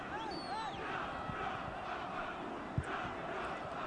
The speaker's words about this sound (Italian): E intanto i tifosi della Juventus, come potete sentire, si portano avanti col lavoro, visto che la prossima partita di campionato sarà contro la Fiorentina.